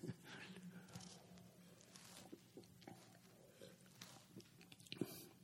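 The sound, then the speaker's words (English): Someone sips a drink of water, with a few soft slurps and swallows. Faint wet mouth noises and light rustling come in an irregular rhythm, with no talking. “Oh, do I need some water?”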